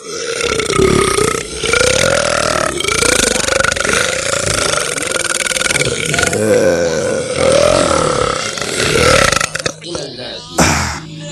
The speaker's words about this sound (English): We want to hear the belch that's going to send you away from us.